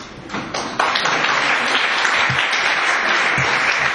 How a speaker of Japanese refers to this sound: すいません、それではこれで承認していただきたいと思いますが、よろしいでしょうか。拍手でお願いします。